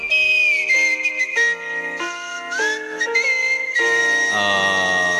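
A loud whistled melody moving through a series of held, stepping notes with a bright, slightly reedy tone, played continuously with no talking.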